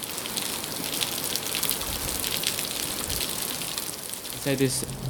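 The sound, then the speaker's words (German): Steady rain patters and hisses on a hard surface, a dense continuous wash of drops, with a brief muffled voice-like sound near the end. “Zusätzlich zum Regen wird es kälter werden. Ein Zelt wird dieses Wetter, diesen Regen nicht stoppen.”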